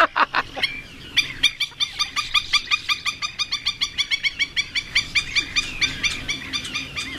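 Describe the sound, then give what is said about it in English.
A black-necked stilt calls in a rapid, steady series of sharp, yapping notes, about three or four per second, loud, with no talking. “That was a black-necked stilt described in the Peterson Field Guide to Birds of Texas as a large, slim wader, black above, white below, with grotesquely long red legs.”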